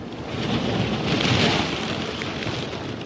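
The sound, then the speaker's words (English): Heavy sea ice grinds and crashes against an icebreaker's hull in the Arctic on a bright spring day, building-sized slabs folding and crashing on both sides as the ship backs and rams through thick ice, in a continuous, loud roar that swells briefly in the middle, with a wind-like rush over it and no voices. “Building-sized slabs of ice fold and crash on both sides of the hull.”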